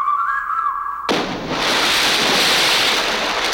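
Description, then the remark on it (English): A brief whistling tone, then a sudden loud splash into icy ocean water that turns into steady churning and sloshing of water for several seconds as someone struggles in the water. No one speaks. “Hey, will you quit splashing?”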